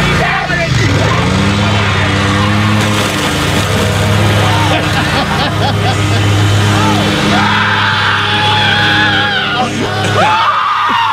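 A lawnmower engine drones loudly and steadily throughout, rising slightly as a father revs it to run over video games, while people yell and scream excitedly over it.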